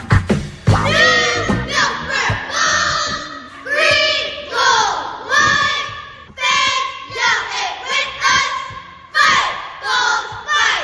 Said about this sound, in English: Those are the new Milford Bull cheerleaders, and they are headed to Disney World.